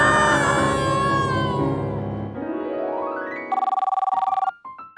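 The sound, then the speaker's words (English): A loud electronic phone ringtone plays a bright, tonal melody, then sweeps upward into a rapid trilling pulse before breaking into a few short beeps. No one speaks. “Your phone.”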